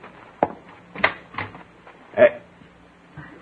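A front door is opened with a few short wooden clunks and rattles of the latch, spaced unevenly, moderately loud, with faint murmuring in the background.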